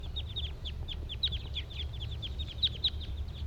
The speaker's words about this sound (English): The rest of the flock is still in that white pine and the male is still singing over there.